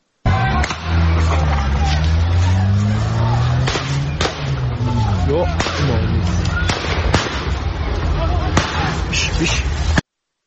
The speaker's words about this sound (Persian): اما باز هم با شنیدن صدای تیراندازی نگرانی اونها صد چندان شده. بشنویم صدای تیراندازی رو.